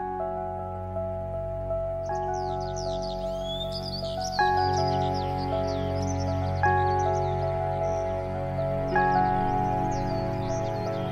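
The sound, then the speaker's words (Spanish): High, sharp whistled bird calls, seven of them, like cloth tearing, repeat in quick bursts throughout, set over a steady background of sustained musical tones that shift chords every few seconds. No one speaks. “Los chistidos que lanza son 7, y es como si en cada uno rasga la tela para hacerle un abrigo a cada uno de sus hijos.”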